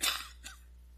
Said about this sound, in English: I've heard several of you coughing and having the sniffles this morning. I'm in the same boat with you, okay? So you cough and I'll cough and we'll make it through this thing, okay?